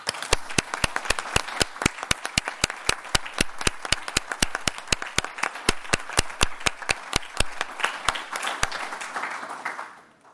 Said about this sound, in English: Au nom de notre Conseil, je te dis merci et je te propose que nous t'applaudissions.